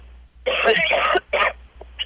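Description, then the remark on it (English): Someone forces out heavy, rasping fake coughs to sound sick on the phone: a long, harsh throat-scraping burst, a shorter second cough, then a faint little tail, with no talking. “do three really heavy coughs and making your throat all itchy and scratchy”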